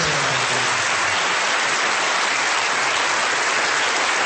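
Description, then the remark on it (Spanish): Sustained applause from more than 500 business people for President Duque, a dense steady roar of many hands clapping at an even loudness throughout, with no voices standing out. “Los aplausos fueron largos”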